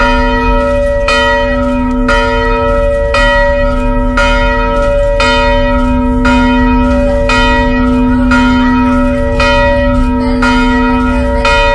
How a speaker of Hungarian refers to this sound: Ünnepre hív a harangszó Vizsolyban